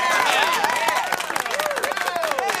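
The studio audience of the morning show Voices of the West Side applauds steadily, dense overlapping claps filling the whole stretch, with high, wavering whoops and cheers rising and falling above the clapping.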